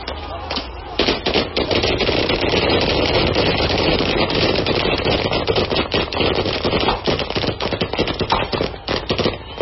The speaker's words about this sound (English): Fingers and sticks tapping metal against wood. A chant in the distance. The hum of police vans. And the yelling of instructions. And then a hail of bullets.